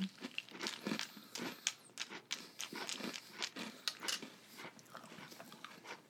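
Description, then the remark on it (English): Crunching and chewing of a hard, crunchy candy snack, with rapid irregular crackly bites repeating steadily, loud, with no talking. “It's got a fine crunch to it.”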